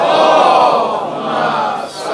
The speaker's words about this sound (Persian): برای اینکه منو تشویق بفرمایید برای این کمک، به روح محدثین شیعه صلوات بفرستیم.